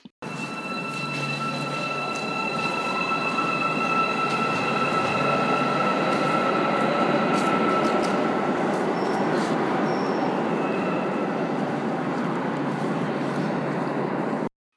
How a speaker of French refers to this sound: Je descends de voiture. Les portes se ferment. Et je regarde le métro s'en aller.